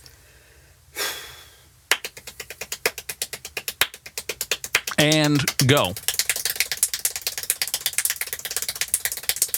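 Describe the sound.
Extremely rapid hand clapping during a world record attempt for the most claps in one minute, begun after a short breathy burst, sharp claps running many per second in an unbroken, steady stream while a voice briefly speaks over them.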